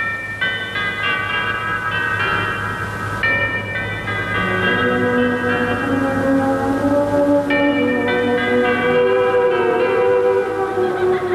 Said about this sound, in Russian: Перезвон курантов в 6 часов вечера после войны.